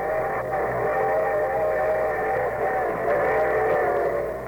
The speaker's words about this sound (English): And here comes the summer show train.